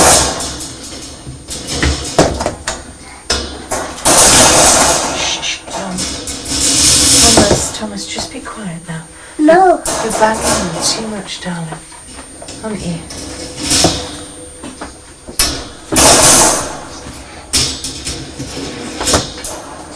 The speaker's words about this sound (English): You're banging it too much. Yeah. Banging wood. Banging wood? I heard a funny sound.